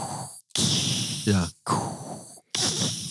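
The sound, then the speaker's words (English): Someone imitates Darth Vader's heavy mechanical respirator breathing: loud, hissing breaths in and out, separated by short pauses, with a brief throaty rasp partway through. “Or breathing like Darth Vader.”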